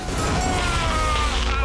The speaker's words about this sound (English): Sparks are flying and the drinks machine blows.